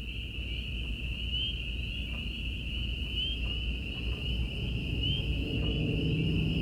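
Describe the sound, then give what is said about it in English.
A steady, high-pitched chorus of crickets, katydids and peepers trills without pause over a soft low rumble of night air on a country night after sunset, continuous, with no voices. “Little peepers and crickets and katydids talked to each other.”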